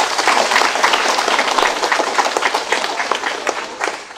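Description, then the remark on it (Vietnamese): Sustained applause from an audience at a Buddhist retreat, thanking a group from Biên Hòa city who offered rice and food for the retreat, a dense wash of many hands clapping steadily at a fairly loud level throughout, with no voices standing out. “Xin một tràng pháo tay.”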